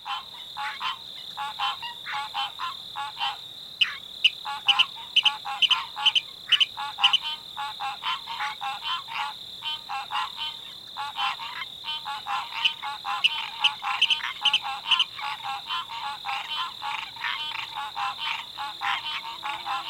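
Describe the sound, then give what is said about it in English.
A dense, continuous breeding chorus of green tree frogs, with a Virginia rail's sharp, staccato kick and kadick notes cutting through in rapid series. No voices; the marsh sounds fill the whole clip. “Its distinctive call is a series of staccato notes, kick, kick, kadick, kadick, kadick, heard here along with a breeding chorus of green tree frogs.”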